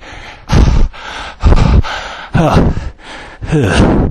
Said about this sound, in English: We're about 6 miles up the hill on stage one of the Omnium here, 9 Mile Canyon. And just to give you some idea of the intensity of this climb, I can barely narrate between breaths.